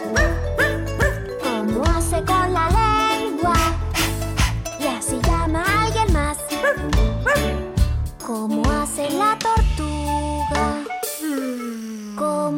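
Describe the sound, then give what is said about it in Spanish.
Several short dog barks pop up in quick succession over a bright, busy tune full of jingling bells and bouncy instruments, the music staying loud and steady throughout. “¿Cómo hace el perrito? ¿Cómo hace al ladrar?”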